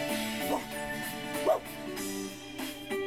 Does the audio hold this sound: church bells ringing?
no